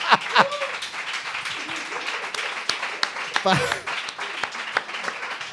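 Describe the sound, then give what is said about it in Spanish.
An audience at the show La Hora Fenomenal applauds steadily at the end of a story, a dense wash of many hands clapping at once, with scattered shouts and cheering voices rising above it throughout. “Y esta es mi historia. Un aplauso.”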